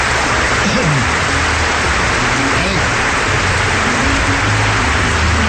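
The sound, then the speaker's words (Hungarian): A crowd claps loudly and steadily, a dense wash of hand claps that holds at an even level throughout, with faint voices murmuring beneath it. “Jó van, köszönjük szépen a tapsokat.”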